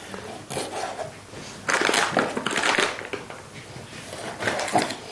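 A knife finely chops fish fillet into small cubes on a cutting board for a filling, in quick bursts of moist cutting and scraping that come in several clusters, with no one speaking.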